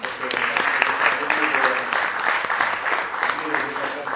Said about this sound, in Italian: Scusate, voglio chiedere un applauso per loro.